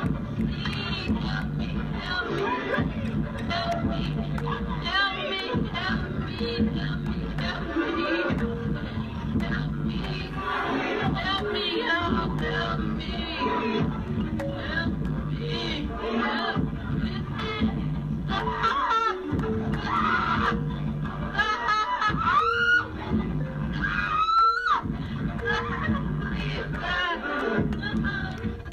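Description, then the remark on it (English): A woman's high, strained scream rises briefly out of a dense, loud crowd roar in a club, the din staying steady and overwhelming around her throughout. “I want you to hear the scream.”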